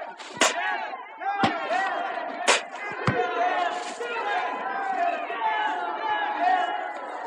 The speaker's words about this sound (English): The crowd of people that cheered him have become a mob now.